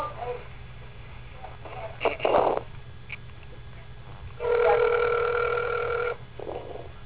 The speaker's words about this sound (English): And it's ringing.